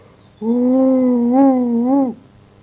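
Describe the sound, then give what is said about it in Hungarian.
A person imitates a wolf's voice with one sustained, low, wavering howl lasting under two seconds, loud, with no other sound around it. “A róka újból a farkas hangját utánozta, úgy felelte a kunyhóból.”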